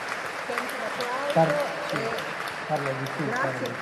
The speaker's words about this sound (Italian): Senti l'applauso.